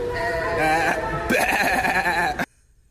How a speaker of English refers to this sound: Oh, that's baby goat right there.